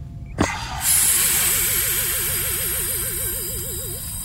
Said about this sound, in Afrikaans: Ek ontgrendel die kapsule. Ek ontsluit die kapsule.